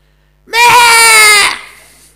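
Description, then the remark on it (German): A single loud, sustained wail of about a second, an adult voice mimicking the baby Jesus crying, with a bright harmonic tone that cuts off and fades quickly. “Als Jesus auf diese Erde kam, war er ganz Baby.”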